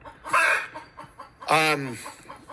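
Two loud chicken clucks: a short squawky burst, then after a pause a longer, drawn-out cluck that slides downward in pitch, with faint background noise between them.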